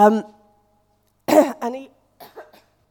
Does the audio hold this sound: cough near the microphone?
yes